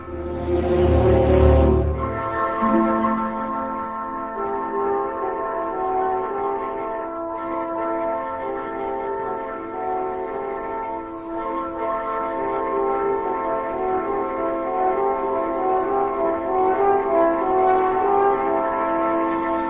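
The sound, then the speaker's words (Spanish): A hermitage bell rings out over soft, sustained orchestral music evoking a peaceful mountain setting, its steady partials hanging in the air after a low, swelling opening, with no voices present. “para hacer todavía más pacífica la evocación de este clima montañés, una campana eventualmente de una ermita se deja oír.”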